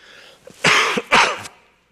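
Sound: cough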